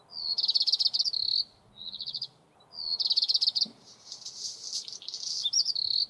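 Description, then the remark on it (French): A bird calls in rapid, high-pitched trills, repeated in several bursts with short pauses between them, clear with no voices. “C'est un oiseau.”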